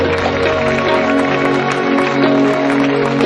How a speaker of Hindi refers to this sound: आइए जोरदार तालियां बजाएं खुदावंद के जलाल के लिए। हालेलुया।